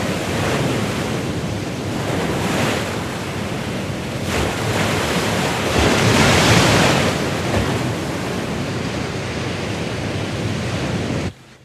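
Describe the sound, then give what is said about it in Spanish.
Strong ocean waves crash and roar continuously at night, a dense wash of surf swelling to a louder surge midway, with some wind mixed in and no voices present. “Las olas baten con fuerza en la noche.”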